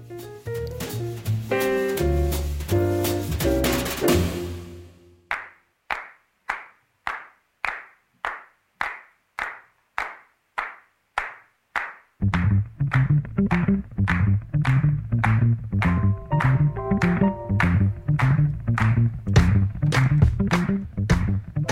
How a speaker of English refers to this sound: Des claquements de mains pour vous applaudir, pour nous applaudir, pour aboutir le monde.